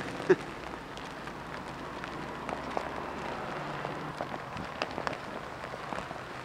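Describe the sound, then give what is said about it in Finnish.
A steady outdoor hail shower in a suburb clatters down in dense, crackling patter, with sharper individual ticks popping out now and then. No voices, just a continuous wash of pelting ice. “Pitäisikö meidän mennä tätä raekuuroa piiloon?”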